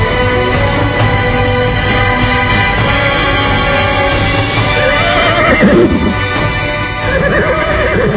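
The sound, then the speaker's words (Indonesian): A rider's horse whinnies loudly over a steady clatter of hooves on a road at night under a full moon, with the neigh rising and falling near the middle; the sound is dense, with no voices. “Pangeran Kudus memberikan isyarat dengan tangannya ketika di ujung jalan nampak menghadang seorang penunggang kuda.”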